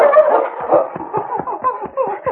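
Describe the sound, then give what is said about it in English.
A dog named King whines in high, wavering tones, broken by a quick run of short yips in a steady, rapid rhythm, fairly loud, as it runs back and forth on the edge of a snow-covered ravine, with no talking. “King whined and ran back and forth on the edge of the ravine.”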